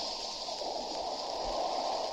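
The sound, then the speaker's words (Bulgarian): A faint, steady drone of a distant ship on the horizon carries across open water, a continuous low rumble blended with soft watery hiss, unchanging throughout with no voices. “Не чувате ли по водата се предава? Не иде отдалече. Да, дочувам кораб.”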